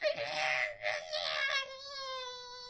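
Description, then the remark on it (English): A voice mimics a sci-fi heat barrier with a sustained, strained whine, rough and breathy at first, then settling into a steady, even buzzing tone for about three seconds. “There is one thing I don't like about it, and that's the noise it makes.”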